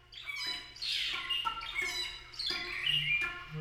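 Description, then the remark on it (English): A flock of cranes on their annual migration calls in overlapping, rolling trumpet-like bugles, repeating every second or so, with no one speaking. “To me, the annual migration of the cranes embodies the idea of the endless cycle of renewal and return.”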